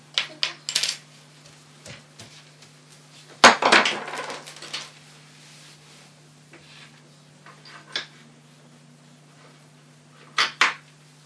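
Small hard objects clink and tap in scattered bursts as toy kitchen utensils are handled, with a louder cluster of clattering near the middle and a couple of sharp taps toward the end as a toy knife taps a cutting board.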